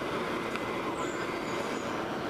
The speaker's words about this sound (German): Irgendwo da hinten ist ein Laubbläser.